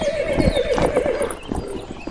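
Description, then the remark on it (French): A horse whinnies with a wavering, drawn-out neigh while hooves clop unevenly on hard ground during a halt, a short, busy burst of stable noise with no talking. “Commencez par donner à boire aux chevaux, après il faudra les desseller, les étriller, les nourrir.”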